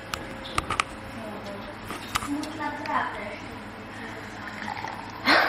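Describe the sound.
Cola is poured into a glass, a steady fizzing trickle with a few sharp clinks at the start and a louder splash near the end. Faint voices murmur in the background.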